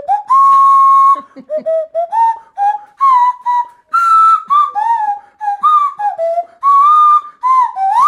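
A nose whistle, blown through the nose with the mouth cavity acting as the resonance chamber, plays a wavering melody of sustained, breathy tones that slide between pitches, loud, with brief pauses between phrases and no talking.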